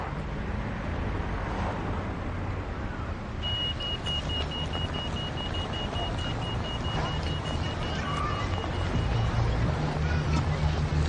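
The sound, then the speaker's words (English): Steady rumble of idling traffic stopped by the lights at a pedestrian crossing, with a thin, high electronic signal tone sounding continuously for several seconds over the engine noise. “Wait for the lights to stop the traffic.”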